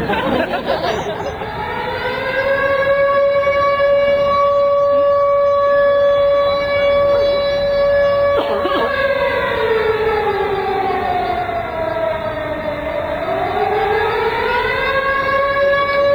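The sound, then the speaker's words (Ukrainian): An air raid siren wails loudly, holding a steady droning pitch for several seconds before sliding down and climbing back up in a slow, mournful sweep, with faint crowd murmur underneath. Sounded in Prague at a protest action. “І по Криму зараз звучить звук, який ви почуєте зараз і в Празі, і на нашій акції, який звучав останнього часу на території України лише під час Другої світової війни.”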